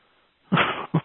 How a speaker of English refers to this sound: My dog. I tried to get him to bark.